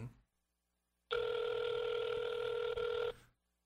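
A single steady ringback tone from an outgoing phone call sounds for about two seconds, a loud, even electronic buzz heard alone with no talking, then cutting off abruptly.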